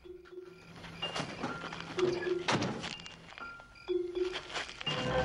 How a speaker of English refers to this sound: He puts the wallet back into Rachman's pocket, then closes the door.